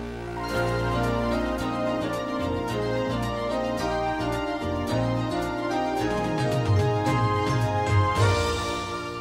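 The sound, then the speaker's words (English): A short orchestral fanfare of Walt Disney VHS home-video opening music plays alone for about nine seconds, steady and full, with sustained harmonic chords, a rhythmic low bass line, and a swelling, brighter finish. “That sound was the Walt Disney home video opening.”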